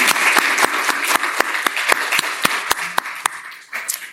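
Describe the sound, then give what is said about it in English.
A crowd of economic development practitioners applauds steadily in acknowledgment of their CEO, a dense wash of many hands clapping with a few sharper individual claps standing out, tapering slightly toward the end. “So I want everybody to join me in a round of applause”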